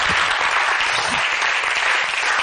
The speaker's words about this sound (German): Also deswegen ist der Applaus, der jetzt kommt, für all die, die eben aufgezählt wurden.